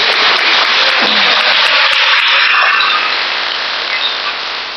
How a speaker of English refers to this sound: Let's give them a clap. Давайте поаплодируем им.